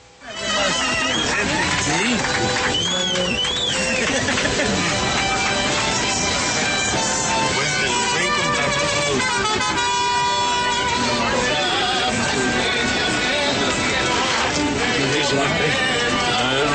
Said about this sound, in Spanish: de todas maneras ahí están sonando los mariachis